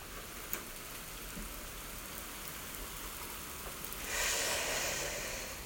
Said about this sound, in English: See, hear it? It's raining. I probably should see if that's coming in the window.